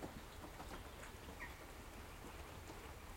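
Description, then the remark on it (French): Light rain patters steadily on a cabin, a soft continuous hiss with scattered small drops. A brief faint chirp rises once in the middle, and no one speaks. “Là, déjà, il pleut un petit peu”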